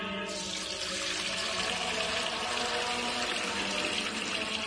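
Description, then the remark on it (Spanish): Fuente Umbría pure spring water pours steadily into a container for several seconds, a continuous splashing and gurgling stream with a slight rising fill tone, with no voices. “Hermano Pedro, es que no nos quedaba agua bendita. Agua pura de manantial Fuente Umbría.”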